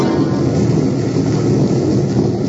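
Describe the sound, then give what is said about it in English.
A loud, sustained roll of thunder rumbles steadily with a deep, broad roar and no sharp crack, holding an even intensity throughout with no voices. “And with that, the apprentice heard a great clap of thunder as a figure bathed in flaming light stood suddenly before him, dressed in black, its eyes shining like the fires of perdition.”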